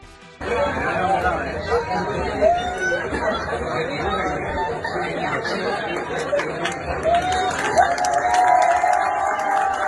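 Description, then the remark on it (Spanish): A lively crowd at a market square and bar laughs, cheers and claps at a bachelorette-party prank, over a steady wash of overlapping chatter, holding loud and continuous for the whole stretch, with short bursts of higher shouts. “Hay muchas risas y aplausos también.”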